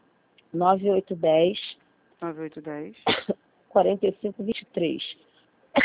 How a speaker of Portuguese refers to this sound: Menina, desculpa, porque ela tosse insuportável.